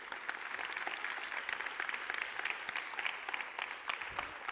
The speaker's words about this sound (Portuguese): Você pode aplaudir a palavra de Deus?